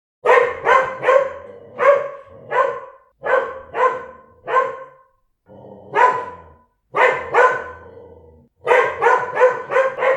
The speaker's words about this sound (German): Hundebellen liegt bei 80 bis 90 Dezibel.